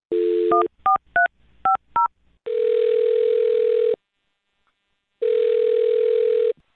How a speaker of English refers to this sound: All right, well, on that note, I'll dial the phone number and get him on the phone and see what he has to say.